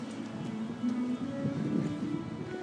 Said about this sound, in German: Man hört, es ist heute recht windig in Lissabon.